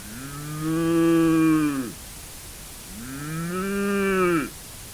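A cow moos twice, each a long, loud, drawn-out low call that bends down in pitch at its end, separated by a brief pause, with no talking.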